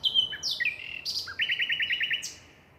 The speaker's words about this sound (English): The babies hatch about 2 weeks later. Then, in August, it's back to Africa for the winter. So there's still plenty of time to listen to one of the most complex birdsong.